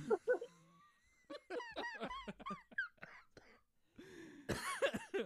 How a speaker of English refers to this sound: Which smoker is coughing? That's me.